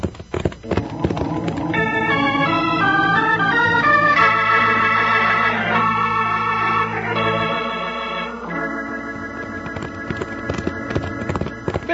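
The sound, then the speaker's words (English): Ridden horses, named Buckshot and Joker, gallop with a steady, rapid clatter of hoofbeats under a swelling orchestral score, the pounding rhythm continuing throughout and growing more distinct as the music thins near the end. “stretch out that horse of yours. We got some riding to do.”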